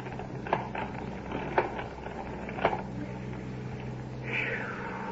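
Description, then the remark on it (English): Rusty, rhythmic creaking of a hand-cranked ice cream freezer in operation on a back porch, with strained squeaks roughly every second over a steady low hum, ending in a higher-pitched squeal. “And now, as we rejoin the Nelsons, the ice cream freezer is in full operation on the back porch. You hear that rusty creaking?”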